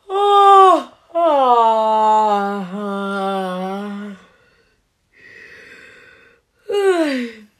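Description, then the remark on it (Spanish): A man's long, drawn-out yawn with a slowly falling voiced tone, fairly loud, between a short vocal burst before it and a soft breathy exhale and brief sigh-like sound after. “Don Holgorio volvió a bostezar.”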